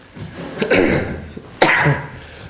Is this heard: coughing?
yes